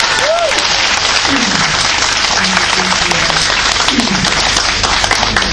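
Steady, dense audience applause for a speaker after a speech fills the whole stretch, many hands clapping at once in a loud, continuous wash, with faint voices and brief vocal sounds mixed in underneath.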